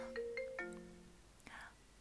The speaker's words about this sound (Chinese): 等一下，等一下，我老公来电话了。